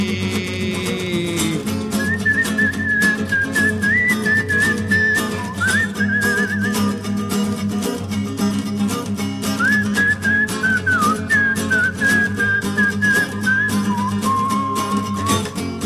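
A bright whistled melody carries a tune in two long phrases over a loud, steady musical backing with a strong beat; no one speaks.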